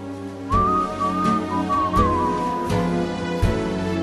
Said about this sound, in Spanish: Y lo bien que silba, señores.